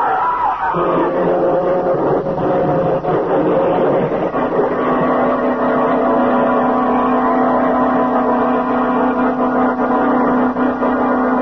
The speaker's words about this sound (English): It's a destroyer! A destroyer! Destroyer? My God, my God, Paul! They can't stop. They're running us down.